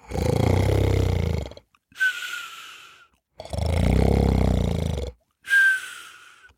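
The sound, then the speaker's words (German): Loud, exaggerated snoring like sawing wood, two long rasping rumbling snores, each followed by a shorter whistling exhale, theatrical, as if a voice is imitating it. “Also legte er sich wieder hin und schlief ein und schnarchte, dass es klang, als wollte der Wolf einen dicken Baum mit einer Säge fällen.”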